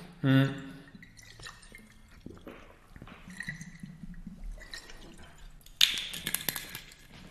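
Drinking sounds: a short slurp of water, a few quiet swallows and soft liquid movement, then a sharper clatter near the end, like a bottle or glass being set down.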